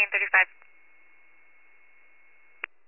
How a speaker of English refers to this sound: Northampton canceled calling towers. T21, I'll drop cancel tones.